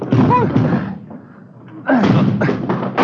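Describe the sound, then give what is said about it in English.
A blocked front door, with something piled against it, takes two heavy, booming blows about a second apart, like a body slamming into it, while voices strain and shout. “the front door. Yeah, come on. Hit it.”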